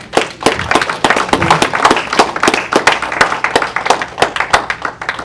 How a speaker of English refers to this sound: And if you believe he's done for you right now, clap your hands with him.